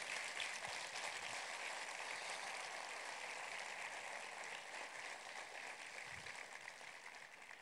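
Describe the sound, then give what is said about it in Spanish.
A large church audience applauds its pastors steadily, a dense wash of clapping that holds its strength for several seconds and eases off slightly near the end, with no voices over it. “Y yo quiero que les brinden un fuerte, fuerte, fuerte aplauso.”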